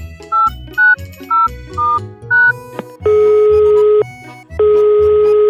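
A quick run of short electronic telephone dialing beeps at different pitches as a call is placed, then two long, steady ringing tones with a pause between, heard clearly over a faint low background and no talking.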